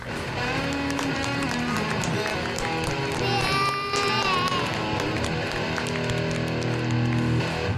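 Applause and cheering from a crowd, a steady, dense wash of clapping and shouting voices that holds at a loud, even level for about eight seconds.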